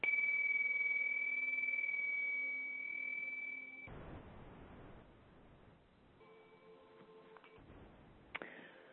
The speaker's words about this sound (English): I'll just ring a bell to help bring everybody back.